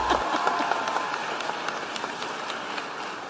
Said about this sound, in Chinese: 乔拜登在过去3年取得的成就在现代历史上是无与伦比的，仅仅一届任期他就已经，你可以鼓掌。